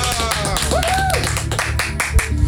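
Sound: studio audience applause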